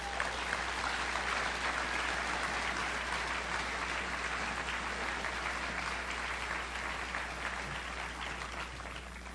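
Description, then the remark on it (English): A large audience in St. Louis claps steadily in a dense, continuous round of applause on hearing that Bill Moyers is coming to St. Louis. The applause is loud and even throughout, tapering slightly toward the end, with no voices standing out. “You know, it was a good round of applause when you heard that Bill Moyers is coming to St.”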